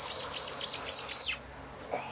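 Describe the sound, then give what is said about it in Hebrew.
A squeaky toy duck, squeaked against a cheek, gives a quick run of about eight shrill, high-pitched squeaks in a steady rhythm, then falls quiet apart from a faint brief sound near the end. “איפה ברווז מצפצף? פה, בלחי.”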